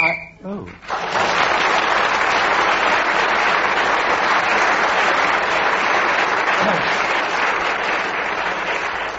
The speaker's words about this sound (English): blows the whistle when the 60 seconds are up, and whoever is speaking at that moment gains an extra point